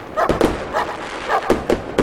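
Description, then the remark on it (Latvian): A dog barks repeatedly in short bursts while sharp cracks and pops of New Year's Eve fireworks rockets go off around it, the noisy scene continuous, with no one speaking. “Gaisā lidos simtiem raķešu, tālumā būs dzirdamas prieka gavilas un starp tām arī suņurejas.”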